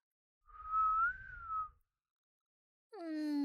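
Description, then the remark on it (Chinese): A person whistles one steady, slightly wavering note for about a second, with a faint low rumble underneath. After a pause, a sustained low voiced tone begins. “要老师吹口哨吗？”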